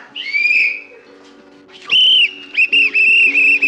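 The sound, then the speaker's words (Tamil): A shrill whistle shrieks in bursts from a whistle someone has swallowed: one long steady blast, a pause, then a sustained tone broken into several quick toots, with a low hum underneath throughout. “ஐயோ என்னங்க, நீங்க விசில முழுங்கின விஷயம் தெரிஞ்சா அவங்க லேடிஸ் கிளப் முழுக்க தம்மட்டு அடிச்சிருவாங்க.”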